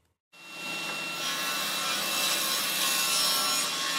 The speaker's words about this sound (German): schiebt ein 3 Meter langes, frisch aufgeschnittenes Holz in die Tischkreissäge. Dabei fliegen Sägespäne durch die Luft. Das wird eine halbrunde Wandverkleidung. Deswegen schneide ich hier einen Winkel an.